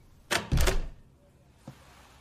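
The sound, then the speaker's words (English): A school principal shuts the door of a coach's office at a school: a sharp click, then a heavier, booming thud, and a small faint knock about a second later. No voices are heard. “Principal Bennett shuts the door.”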